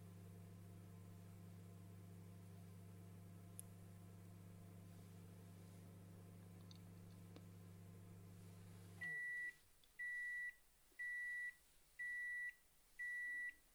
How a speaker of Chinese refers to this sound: 对啊，电磁炉按键那么多，我又没贴贴纸，所以我就只能随便按按键。